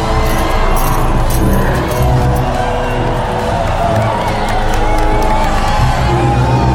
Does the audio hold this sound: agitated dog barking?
no